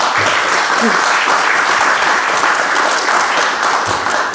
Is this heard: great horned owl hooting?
no